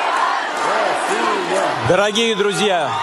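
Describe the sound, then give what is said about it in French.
A large crowd chants "Russia" in unison to welcome Vladimir Putin at the concert for the 10th anniversary of the annexation of Crimea, a dense roar of many voices rising into loud, rhythmic, drawn-out shouts, with the chant growing stronger toward the end. “Oui, avec Russia, Russie, scandée par cette foule bien ordonnée pour accueillir Vladimir Poutine.”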